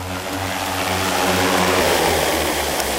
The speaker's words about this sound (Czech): Dron nám přistál, vypadá to, že je všechno v pořádku a my se teď půjdeme podívat k počítači, co jsme naměřili.